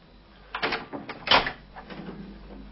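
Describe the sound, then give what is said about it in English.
A handful of sharp knocks on the door of flat 1203 on the 20th floor of Burlington Mansions, Goldreich Street, in an uneven cluster, the loudest in the middle, followed by a few fainter taps and rustling. No one speaks. “He takes the lift to the 20th floor and knocks on the door of a flat.”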